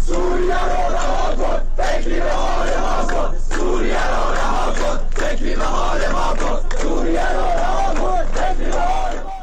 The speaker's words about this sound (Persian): در ویدیوهایی که در شبکه‌های اجتماعی منتشر شده، معترضان از جمله شعار مرگ بر گرانی، مرگ بر رئیسی و مرگ بر خامنه‌ای سر دادند.